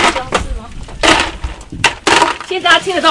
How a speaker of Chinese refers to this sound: 好，现在就是一群人很狼狈在地上捡冰块，然后避免那个。那个录音室的那个直播室的地毯湿掉这样子，因为我们的地毯下面、地板下面都有我们很多设备的线路会通过。